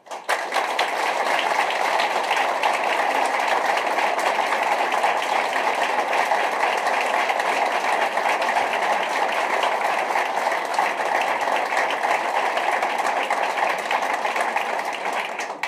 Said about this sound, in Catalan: I per això els demano per ells un aplaudiment. No per mi, per ells, perquè són ells qui han fet possible aquesta trajectòria.